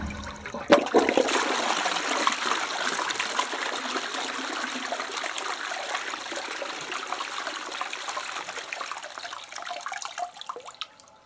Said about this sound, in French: L'eau qui coule, l'eau qui coule, l'eau qui coule, l'eau qui coule, l'eau qui coule, l'eau qui coule.